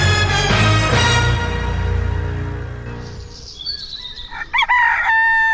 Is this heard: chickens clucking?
yes